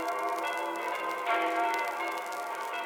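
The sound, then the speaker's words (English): Bells ring continuously in a dense, overlapping wash of sustained metallic tones, holding steady throughout with a slight swell midway, no voices present. “Wow, gotta get out of the way of the sound waves of those bells.”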